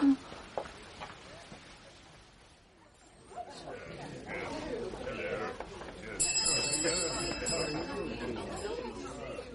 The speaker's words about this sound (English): Soon there were repeated pulls at the bell and arrivals too numerous to particularize.